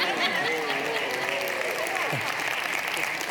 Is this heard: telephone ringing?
no